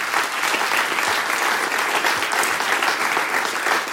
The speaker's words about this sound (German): Und das unterstützen wir mit einem großen Applaus.